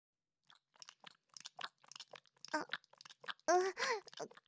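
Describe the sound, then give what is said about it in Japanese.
Wet, sticky squelching of body soap foam being lathered over skin in a bathroom, coming in quick irregular bursts of varying loudness, with a couple of short voiced sounds mixed in toward the end. “激しい中層でぬちぬちとボディーソープが泡立つ音だけが浴室に響き渡ります。”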